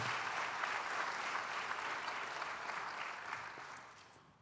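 An audience claps steadily in a dense, continuous wash of applause that holds strong for several seconds before gradually thinning and fading out at the end.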